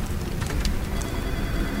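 rain

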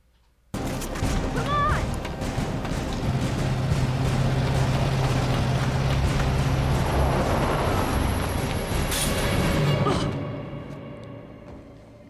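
truck driving

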